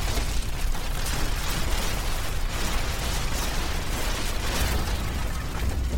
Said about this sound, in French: Une avalanche de gravats. C'est fini ! Ils sont cuits !